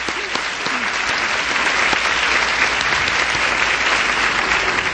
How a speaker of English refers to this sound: Have you ever seen anything as beautiful as these tables coming in here? It was like a fairyland. I think we ought to give that crowd a clap.